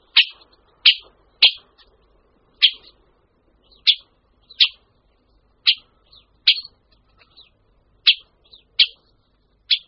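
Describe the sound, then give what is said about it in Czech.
A Syrian woodpecker gives a series of short, sharp, high calls, about a dozen spaced irregularly over several seconds, loud against an otherwise quiet background. “To probíhá v březnu, kdy oba ptáci v páru bubnují a ozývají se křikem.”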